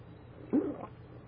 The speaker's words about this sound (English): So continuing our reading, first I'm going to have a sip of water here.